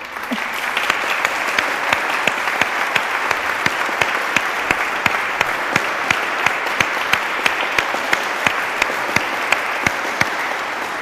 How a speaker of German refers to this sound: An dieser Stelle ein ganz herzliches Dankeschön an euch. Für euch klatschen wir unbedingt.